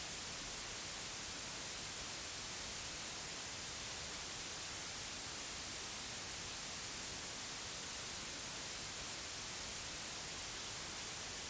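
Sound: white noise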